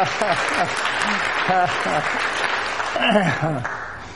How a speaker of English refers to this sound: So I asked the earlier group if they wanted to wish the pastor happy birthday, and so they did. They applauded. So if you'd like to do that, well, you may too.